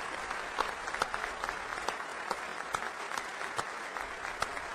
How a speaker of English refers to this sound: Through the tears came smiles as lawmakers gave the families a standing ovation.